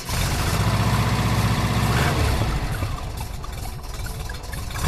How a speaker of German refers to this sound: T3-Bulli mit einem 2-Liter-Motor, Baujahr 1980, so ein richtig schöner Oldtimer.